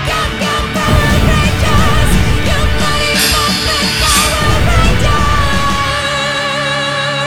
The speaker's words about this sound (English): As the group cheer and laugh, Jason lowers his head.